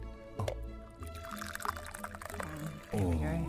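Black tea, Alcazé Black Label, pours steadily into a cup, a continuous splashing trickle that grows fuller and rises in pitch toward the end as the cup fills, with low voices in the background.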